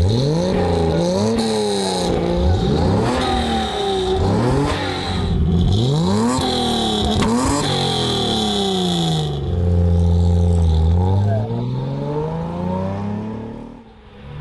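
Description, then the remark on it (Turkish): A Mercedes race car engine revs hard through repeated gear shifts, its pitch climbing and dropping in quick cycles, then settles into a lower, steady growl before fading. Loud, with no talking. “Bunun motorun sesi biraz daha tatlı geliyor, evet.”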